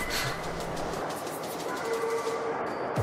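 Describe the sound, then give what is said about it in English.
A Brooklyn-bound A express subway train rumbles steadily along, with a continuous loud roar, a faint high whine, and a brief rising tone near the end. No voices are heard. “This is a Brooklyn-bound A express train.”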